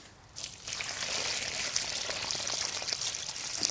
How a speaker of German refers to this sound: Und dann ist es wichtig, dass man jetzt angießt. Gut angießt.